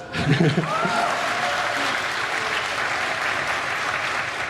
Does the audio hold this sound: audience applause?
yes